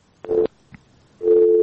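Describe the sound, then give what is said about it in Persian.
A steady electronic phone tone sounds in a short burst, then a faint click, then the tone returns and holds, the disconnected-line signal after a listener's call to a radio phone-in programme drops, heard alone over a quiet line. “تماسشون قطع شد.”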